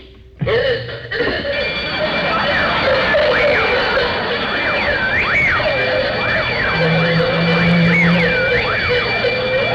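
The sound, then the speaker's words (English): A burglar alarm suddenly starts blaring and keeps going, a loud, steady electronic wail with high tones and a repeating rising-and-falling warble layered over it. “Need a louder burglar alarm.”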